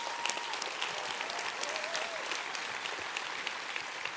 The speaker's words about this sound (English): I want to give a big round of applause for everyone who organized one of these community hubs or contributed to one of these community hubs, because they were absolutely incredible.